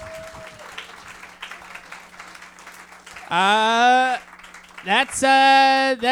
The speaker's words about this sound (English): Round of applause for Alex and his bold prediction,